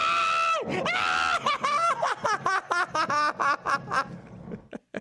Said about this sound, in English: screams like a little girl. So sit there and be quiet for a second so everybody can hear it. Go ahead.